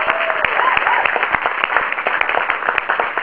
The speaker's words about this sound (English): to first give a real big round of applause to the SPJ, Society of Professional Journalism, for inviting us here.